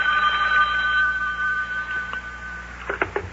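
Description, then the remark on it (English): A telephone rings with a steady electronic trill, clear, then a few brief clicks and rattles near the end as it seems to be picked up. “Uh-oh, telephone's ringing.”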